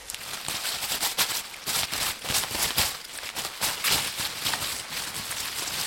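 Crisp lettuce leaves of an endive are rustled and crumpled for several seconds, a dense, crackling, rattly rustle with quick sharp bursts at a steady moderate loudness and no voices.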